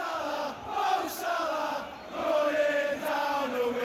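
crowd, football stadium crowd cheering

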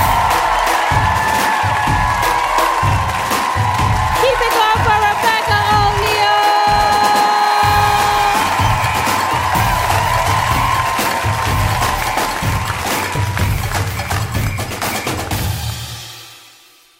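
crowd, audience applause and cheering

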